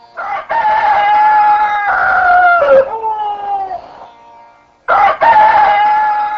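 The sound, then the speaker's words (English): A rooster crows loudly at dawn, two long strained cock-a-doodle-doo calls separated by a brief pause, with harsh harmonic wavering tones and no other sounds around them. “Shukdev Goswami said, as dawn approached, the wives of Lord Madhava, each embraced around the neck by her husband, cursed the crowing roosters.”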